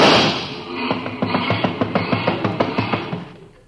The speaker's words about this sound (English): No matter what car comes in, he always races the motor.